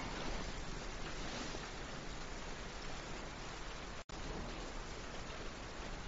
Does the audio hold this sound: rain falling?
yes